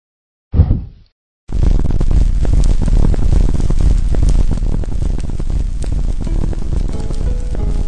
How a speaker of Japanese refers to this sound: 魔法で暖炉をつけて部屋を温め、そして台所に向かう。